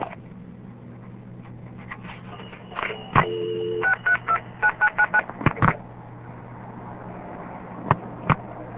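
A quick run of touch-tone telephone dialing beeps for a Seattle number, about half a dozen crisp tones in steady succession, framed by clicks and a low steady hum, with a couple of sharp clicks afterward.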